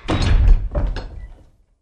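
A door opens with a low wooden thud and rattle as a goat enters her house, then a second knock-like bump before the sound fades into quiet. Moderately loud, with no voices.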